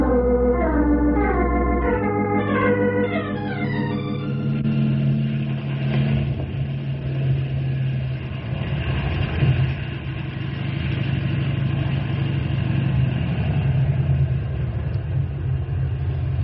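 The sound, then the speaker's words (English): A car engine turns over with a rising, whining pitch for a few seconds, then settles into a steady, loud, low rumbling idle that continues to the end, with no one talking. “Henry, bring the car around front.”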